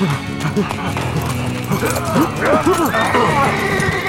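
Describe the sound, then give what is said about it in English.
Several horses gallop off as their riders leap into the saddles and flee, a steady clatter of hooves mixed with shouting voices and what may be a whinny. “We all leapt into our saddles and got out of there as quick as we could.”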